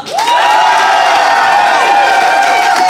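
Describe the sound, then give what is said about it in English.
A studio audience votes by applause, bursting into loud, sustained cheering and applause, with whoops and shouts rising over steady clapping for the full few seconds. “I would like you to applaud now.”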